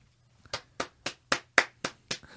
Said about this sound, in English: But we don't just do manual clapping on this podcast.